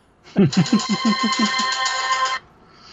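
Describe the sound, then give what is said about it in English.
A mobile phone ringtone for incoming text messages plays alone for about two seconds: a quick run of pulsing electronic notes that settles into a bright, sustained chime before cutting off abruptly. “I was trying to mute my phone because I have 18 people literally at once texting me about weird stuff.”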